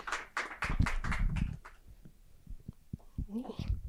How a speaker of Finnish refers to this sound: Annetaan pienet aplodit. Kiitoksia.